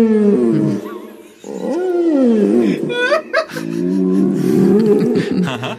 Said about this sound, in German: Ich habe gerade, ihr werdet lachen, ich habe nämlich gerade nichts gesucht, sondern ich habe die Leitung nach Chile aufgebaut. Wir haben den Wal jetzt in der Leitung.